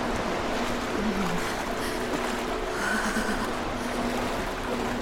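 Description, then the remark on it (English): Steady rushing and sloshing water with waves breaking continuously as someone wades waist-deep through freezing water, pushing through the waves toward an opening in a ship's hull, under a faint low droning hum. No voices, and the level stays even throughout. “But I pushed through the waves and made my way to the opening.”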